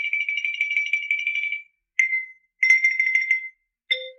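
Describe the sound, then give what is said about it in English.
A bright xylophone sting: a quick rolled tremolo on one high note, then a struck note, a second short roll, and a final hit with a lower tone underneath. No voices. “Well, there's got to be some legal way to kill xylophone players.”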